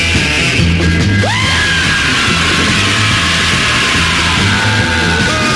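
Loud, dense rock music with a pounding, repetitive beat, and a howling wail that swoops upward and holds over the noisy band, continuing at full volume throughout, at the ending of a horror rock song.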